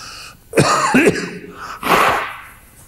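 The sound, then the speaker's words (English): Someone blows their nose in two loud, snorting bursts, the first rough and honking, the second a shorter breathy blast, with no talking. “I wish I knew a way to blow my nose without getting it recorded, but it didn't.”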